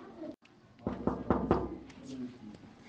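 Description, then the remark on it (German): Four quick, firm knocks on the door of a secretary's office, evenly spaced, followed by a moment of quiet with faint murmuring in the background. “Ich klopfe jetzt mal.”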